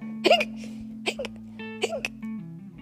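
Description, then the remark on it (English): A voice imitates hiccups, making roughly three or four sharp "hic" sounds spaced about a second apart, over a soft, steady background hum. “Had the hiccups.”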